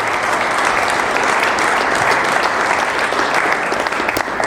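A crowd applauds steadily for several seconds, a dense, loud wash of clapping hands with no break and no voices standing out.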